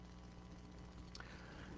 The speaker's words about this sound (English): And so this kind of signal is also called pink noise because it's somewhat in between white and red. And more exactly, if one does the analysis, then this kind of noise has a frequency content that rises at low frequencies like 1 over the frequency